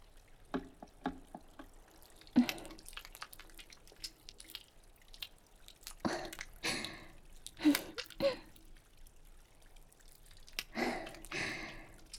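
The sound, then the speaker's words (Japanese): Wet squishing and splashing of hands lathering and washing with soapy water, done by hand instead of with a brush, coming in irregular bursts with brief drips between them and no talking. “泡立ちは落ちるけど、手で洗うことにしましょうか。”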